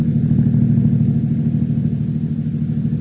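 A car engine drones steadily as the vehicle drives along, a loud, continuous low rumble with no voices.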